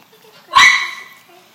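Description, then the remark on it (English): A single sharp, high-pitched bark from Cupcake, a pet dog, rings out loudly around 7:33 a.m. and trails off over about half a second, with faint voices murmuring in the background. “The dogs are like, a cupcake now hears us and is just like, come get me.”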